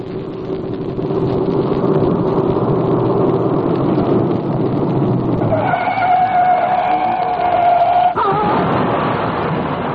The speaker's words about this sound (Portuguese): O carro capotou e eu tive sorte em não morrer esmagada.